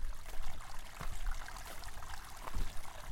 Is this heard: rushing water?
yes